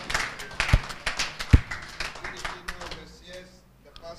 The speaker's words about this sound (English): Let's give him a clap of praise. Masimkhwabele uThixo izandla.